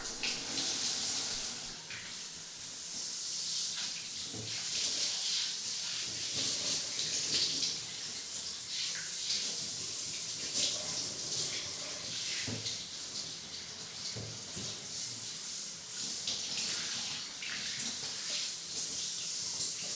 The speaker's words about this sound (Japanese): じゃあお次はお体を洗いましょうか。シャワーで流してと。